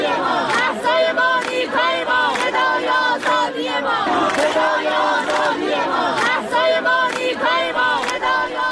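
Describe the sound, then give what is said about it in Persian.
A large crowd of University of Tehran students in Iran chants protest slogans in unison, loud and continuous, with rhythmic shouted phrases repeating every second or so and voices blending into a sustained roar. “بشنویم شعار دانشجویان دانشگاه تهران رو،”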